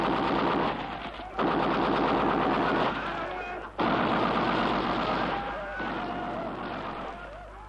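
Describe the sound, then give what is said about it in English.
Loud, rapid bursts of fire from four Browning machine guns on a Mosquito, trained on a hill, rattle in long continuous streams, broken by a couple of brief pauses before the hammering resumes. “You're going for the machine gun. Yes, the Brownings.”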